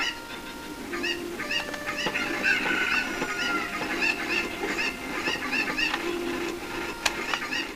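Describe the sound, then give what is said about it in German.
A flock of chickens clucks and squawks continuously, with many overlapping short calls and a steady busy chatter throughout, no voices standing out. “Nee, gerade auf das andere Huhn zu laufen.”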